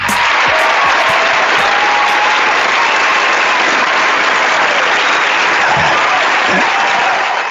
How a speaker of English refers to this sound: Sounds like applause this week.